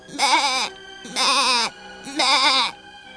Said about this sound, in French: Bêlait la chèvre, effrayée.